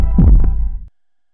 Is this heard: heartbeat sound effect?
yes